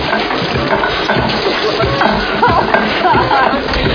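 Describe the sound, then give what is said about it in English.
Shower water splashing and sloshing steadily for several seconds, loud, a continuous rushing wash with faint muffled voices mixed in. “Please don't let my children find me drowned and naked in a shower.”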